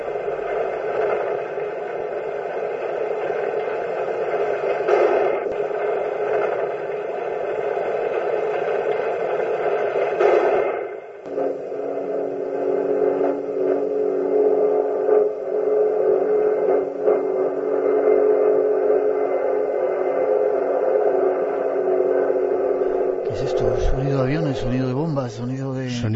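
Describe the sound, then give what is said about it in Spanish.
Civil war propeller warplanes drone overhead in a steady, heavy engine roar that holds for a long stretch, dips briefly midway, then gives way to wavering, sweeping tones at the end. “Sonidos de aviones, concretamente, exactamente. Parece la banda sonora de una guerra, en este caso de la guerra civil.”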